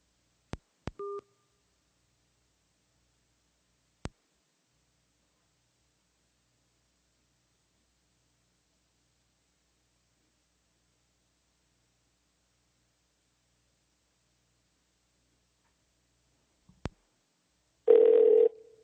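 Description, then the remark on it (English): A few sharp clicks and a brief two-tone telephone beep as a phone call is hung up, then a long silence before another click and a short, loud burst of phone ringing at the very end as the call is placed again to get a better connection. “Let me just hang up on you, quick call you back.”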